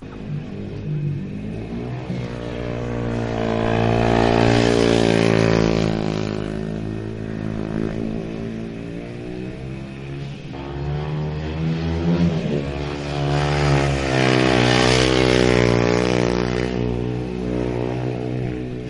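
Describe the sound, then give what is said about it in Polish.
Speedway motorcycle engines roar and rev loudly for the whole stretch, pitches climbing and falling in overlapping waves as bikes accelerate past, with an open echo, at the Smoczyk Stadium in Leszno, Poland, on a Saturday early afternoon, the bikes' first run of the season. “gdzieś na ten warkot motocykli żużlowych musieliśmy czekać.”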